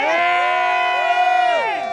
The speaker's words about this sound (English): The cheering is for Ella Jones, who was just elected as Ferguson's first black mayor.